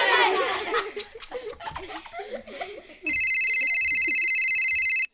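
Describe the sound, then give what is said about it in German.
A loud, steady electronic telephone ring cuts in for about two seconds, following a stretch of talking and laughter, then stops abruptly. “Ein Minut nur, mein Telefon klingt jetzt”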